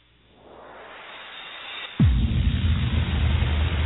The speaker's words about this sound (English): Wait, there's something running in the background? They can hear the wind. I can hear your storm. It's your storm.